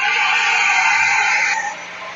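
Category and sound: crowd, screaming concert crowd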